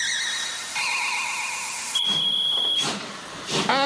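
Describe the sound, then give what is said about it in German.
A steam locomotive whistle sounds in sustained tones, shifting pitch once, over a steady loud hiss of escaping steam, then bursts of hissing steam puff out near the end. “Eine Mähne Gegenwart, meiner Dampflok freie Fahrt. Hex, Hex.”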